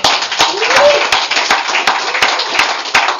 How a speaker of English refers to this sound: I'd say that's worth a round of applause. What do you think? Yeah.